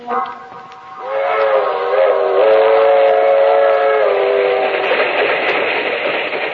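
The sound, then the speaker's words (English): A passenger train, the Southeast Limited, rumbles along the rails, its loud, steady multi-tone whistle blowing for several seconds over the continuous roar of the moving cars, with no one speaking. “That train is the Southeast Limited. See it? Long and sleek and powerful, clicking off the miles on the humming rails.”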